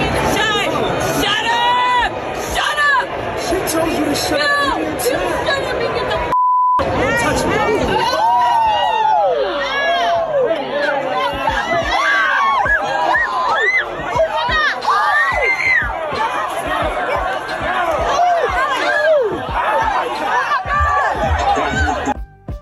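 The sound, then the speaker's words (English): A loud, chaotic crowd of many voices shouting and yelling over one another during a melee in the stands at a Lions-Steelers exhibition game, recorded on a camera phone, with a brief cutout and tone early on before the frantic shouting resumes without pause. “The melee was captured on a camera phone and shared across social media platforms.”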